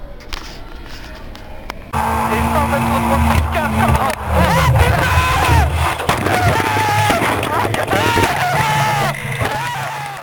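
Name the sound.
car crash sound effect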